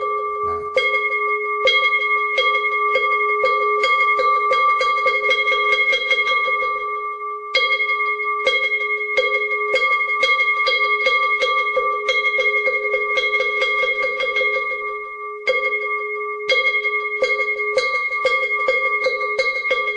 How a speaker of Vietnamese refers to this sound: Chắp tay lại, chúng ta lễ Phật một lễ, và sau đó chúng ta cho ba hồi chuông và mõ.